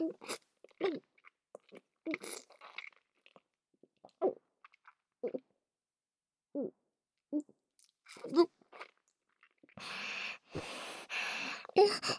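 A string of short, soft gulping swallows in an uneven rhythm, with moist throat sounds between them, giving way at the end to a steady breathy hiss.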